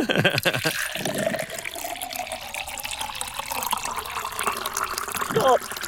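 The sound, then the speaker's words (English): Water pours steadily into a vessel of undetermined size for several seconds, a continuous splashing rush, with brief voices murmuring at the start and again near the end. “Yes, we're ready to pour.”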